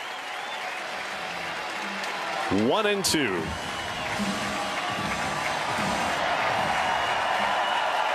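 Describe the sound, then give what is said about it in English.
A baseball stadium crowd of just over 20,000 roars and claps in a steady, dense wash of noise that never lets up, making noise to help Cardinals reliever Pyomps pitch to Alec Burleson, with a man's voice briefly speaking over it partway through. “Crowd of just over 20,000 announced. Making noise to help Pyomps.”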